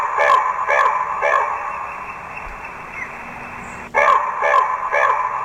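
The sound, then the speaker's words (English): A recorded raven call played through a small bird-call device, chosen by entering the bird's number: two sets of three harsh, rasping caws, evenly spaced, with a tinny, band-limited tone and a low steady hiss filling the gap between sets. “Okay, so it's a corvid. Yeah. It's either a crow or a raven.”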